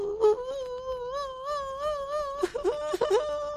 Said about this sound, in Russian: И вдруг набрел на плачущего ….